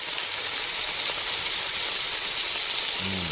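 A steady, loud crackling hiss of food sizzling in a hot frying pan, continuous throughout, with a faint low hum creeping in at the very end.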